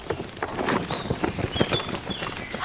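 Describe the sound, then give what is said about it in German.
An eagle owl is released from a cardboard box that has been carefully opened and tilted forward, poking its head out and flying off into the wild: a quick series of hollow knocks and flaps, with thin birdsong whistling in the background. “Der Uhu hat sofort seinen Kopf rausgestreckt und ist losgeflogen.”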